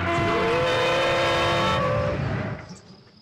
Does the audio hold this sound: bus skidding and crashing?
yes